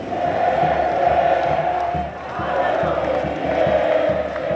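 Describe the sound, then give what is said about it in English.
A huge crowd celebrating in Buenos Aires, Argentina, roars and chants a name, a dense, steady wall of many voices with rhythmic swells and cheering whoops rising through the continuous noise. “As that huge crowd celebrates in Buenos Aires, they chant his name more often than hers and seem to believe Argentina's new political partnership will work out fine.”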